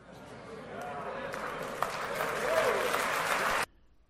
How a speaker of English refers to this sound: Now, do you know why Copeland's people are applauding that? Because they have no idea what the Bible teaches.